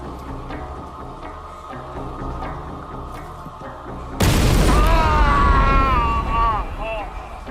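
A low mechanical hum gives way to a sudden, loud bomb blast about halfway through, a bomb found on the floor of a university computer department coffee room in 1982, followed by a sustained roaring rumble with wavering, wailing tones riding over it.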